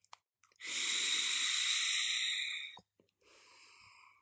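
A long, steady airy inhalation with a faint hiss as someone takes a drag on an e-cigarette with a Thai Chai Boba on the Rocks liquid tasting of mango, orange, mandarin and vanilla chai, lasting about two seconds, followed by a softer breathy exhale. Fairly quiet, with no talking.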